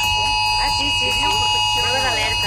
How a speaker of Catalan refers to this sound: Són les alertes, efectivament. És l'alarma que sonava a través dels mòbils de la gent per avisar la població d'una incidència de protecció civil. El Departament d'Interior qualifica d'èxit aquesta prova, la tercera ja que s'ha fet a Catalunya.